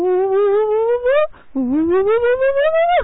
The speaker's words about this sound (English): The orca whales I really love. I mean, they're just big dolphins, really, and they're so playful, and they make the most amazing sounds. It sounds like spiraling sounds.